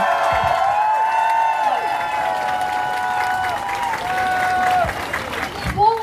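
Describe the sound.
A crowd gives a sustained round of applause, dense steady clapping lasting several seconds, with high cheering and whooping voices ringing out over it.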